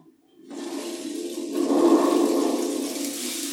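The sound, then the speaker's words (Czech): A thunderstorm breaks in after a brief silence: a steady, rushing roar of rain and wind that swells to a loud peak midway, then holds, with no voices. “Panečku, to je bouřka.”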